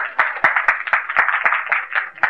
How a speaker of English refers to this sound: Loud applause here.